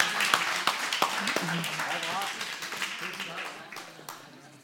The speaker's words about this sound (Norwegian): Ja, veldig bra. Stor applaus!